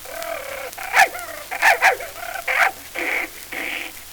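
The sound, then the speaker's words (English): A dog named Princey barks several times in short, uneven bursts, fairly loud, with brief pauses between the yaps and no voices. “Look here, dog, if you come near me, I'll bite my initials on your back.”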